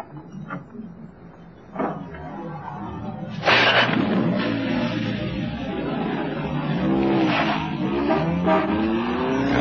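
A car door thuds, then an engine turns over and revs, its pitch climbing as the car pulls away; a woman has run out of a house door and jumped into her car. No one speaks.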